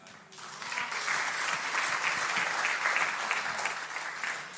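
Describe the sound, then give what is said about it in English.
An audience applauds a band to thank them, dense clapping rising quickly after a brief start and holding at an even, fairly loud level throughout without voices standing out. “and the band a wonderful round of applause just to say thank you.”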